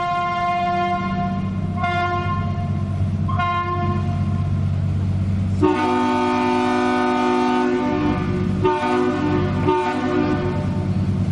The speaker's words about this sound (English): The first one was the boat. The second one was a horn mounted on the bridge, responding to their horn on the boat.